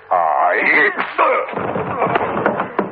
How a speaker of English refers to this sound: That be your pay. A knock about the head. What you deserve.